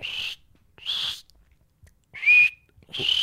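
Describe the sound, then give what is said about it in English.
A person imitates cricket chirping with four short, high, hissy whistle-like bursts, each about half a second long, with uneven gaps between them and no talking. “It's like, that was supposed to be cricket noise.”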